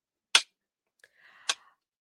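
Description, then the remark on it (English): Two sharp, loud slapping smacks about a second apart, made by a dog, the second one with a brief faint squeaky whine around it. No one speaks. “It sounds like you're slapping yourself. No, the dog's making noise over here, but no.”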